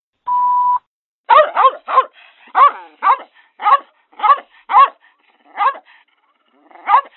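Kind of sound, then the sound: animal, dogs barking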